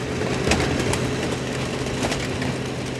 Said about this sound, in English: there's a big yellow machine that has a blue Pontiac inside. One of her employees walks over and flips a switch. Right now, he's having to turn on the crusher. Within a few seconds, the car is squished into a block of metal that's ready for scrap.